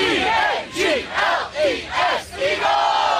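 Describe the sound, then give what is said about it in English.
Eagles fans on a plane sing the Eagles fight song together in a loud, rhythmic chant, the melody rising and falling in repeated phrases, with cheering energy throughout. “Birds fans in the sky breaking out the Eagles fight song on a plane.”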